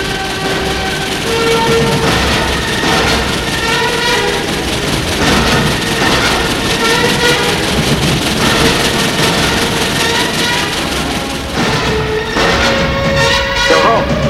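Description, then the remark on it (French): A train carrying people to Marseille rumbles steadily along the rails, loud, with rhythmic clatter and tonal squeals or horn-like whines rising over the continuous roar throughout. “Et puis, dans des trains pour aller à Marseille, en Afrique.”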